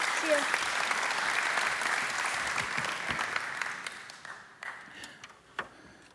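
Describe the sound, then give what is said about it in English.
A crowd applauds a helper who climbed a ladder in a trust demonstration, with dense, steady clapping for about four seconds, then it thins into a few scattered claps before fading out. “Well, y'all give him a giant round of applause.”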